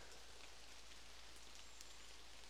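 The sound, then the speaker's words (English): Steady rain patters on the leaves of the surrounding canopy in a small section of autumnal woodland at Hackfall Wood, in misty weather, a soft continuous hiss with scattered brighter drips, fairly quiet and even throughout with no voices. “On top of that, you may also be able to hear the pitter-pattering of raindrops on the leaves in the surrounding canopy of this little section of woodland in which I'm sheltering.”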